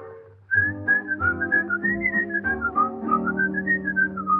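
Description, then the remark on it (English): Someone whistles a lilting melody, a little Swiss whistling song, in clear, bright tones, gliding from note to note in steady phrases over a soft, low musical accompaniment. “Then this is what they do. They whistle, I love you.”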